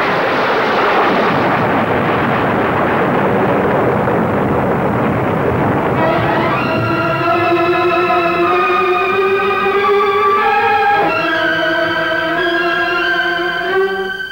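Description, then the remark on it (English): A bolt of lightning strikes an iron helmet and a volcano erupts in a loud, sustained roaring blast that rumbles for several seconds, then gives way to a droning, ringing tone that swells and holds. No voices. “A bolt of lightning went straight to Calcimol's iron helmet as though he were a lightning rod. Oh, but the explosion. A volcanic eruption.”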